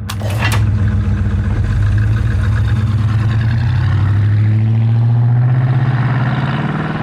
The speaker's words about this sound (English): Some muscle cars, like the 1970 GTO, had an option where you could pull a little lever and make a louder noise.